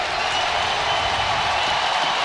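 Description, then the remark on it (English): The hockey crowd at TD Garden in Boston cheers as the horn sounds at the end of the Boston Bruins' 4-1 win over the Washington Capitals, a steady, dense roar that stays loud and unbroken for a couple of seconds, with no distinct voices standing out. “And you can hear the crowd here at TD Garden as the horn sounds.”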